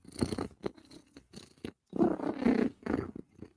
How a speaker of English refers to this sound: Because if cat is purring, cat is a happy, happy girl.